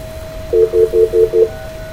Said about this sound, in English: I'm gonna hit star 69.